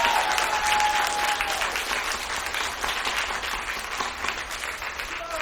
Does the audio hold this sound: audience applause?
yes